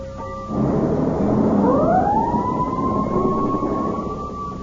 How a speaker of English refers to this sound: Why, those are the sounds of the school bell and fire engine, aren't they?